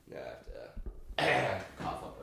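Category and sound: human body sound, throat clearing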